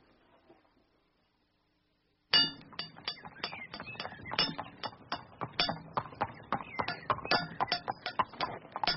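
A boy at a blacksmith's forge strikes metal with a hammer in a quick, steady rhythm, dozens of bright clanging strikes with a metallic ring after each blow, beginning abruptly after a brief faint murmur.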